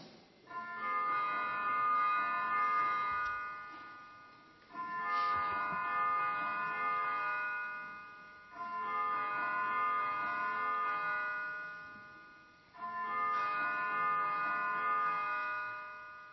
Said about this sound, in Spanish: Bueno, estas campanas suenan cada vez que se va a producir una votación para que los diputados y las diputadas estén atentos y sepan que tienen que ir a ocupar sus escaños y para poder votar.